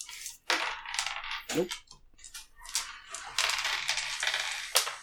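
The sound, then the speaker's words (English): Small hard objects rattle and clatter repeatedly as dice are shaken and tumble across a surface, in a busy burst of clicks lasting several seconds. “You warming up your dice?”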